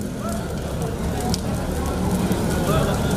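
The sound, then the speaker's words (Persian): Tires set alight by protesters during a street protest in Lebanon, where protesters clashed with security forces and the army, crackle and roar steadily and loudly, a dense, continuous hiss of flames, with faint indistinct voices in the background. “در این منطقه معترضان اقدام به آتش زدن لاستیک کرده و با نیروهای امنیتی و ارتش درگیر شدند.”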